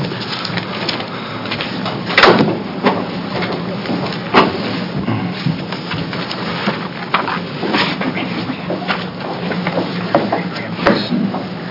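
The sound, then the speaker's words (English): A door opens at a state legislative committee hearing as Representative Tina Kotek arrives, amid steady background noise, with a few sharp clunks and knocks from the latch and handle rising briefly above the hiss. No one speaks. “I keep waiting for the door to open.”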